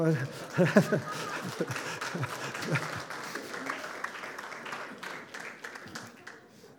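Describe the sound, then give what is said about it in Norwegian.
An audience breaks into steady, sustained applause with dense overlapping claps, mixed with voices and some cheering, fading slightly toward the end. “Applaus.”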